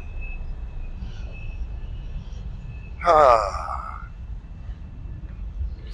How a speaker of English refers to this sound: Well, this will be interesting. We'll see how the Bluetooth mic deals with a train going along Steel Bridge. This might get noisy. Bear with me.